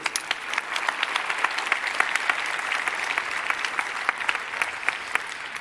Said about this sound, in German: 5,9, dafür einen Applaus bitte.